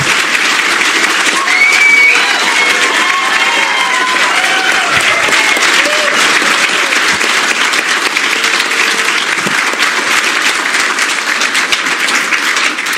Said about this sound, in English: Thank you. You may clap for him.